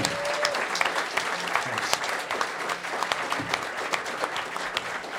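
An audience claps steadily throughout, applauding two speakers for coming out, a dense, sustained patter of many hands at moderate volume, with no voices standing out above it.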